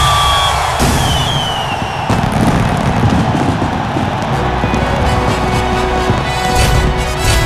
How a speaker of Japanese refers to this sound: 大きな花火です。ついに始まりましたフットボールフロンティアインターナショナル。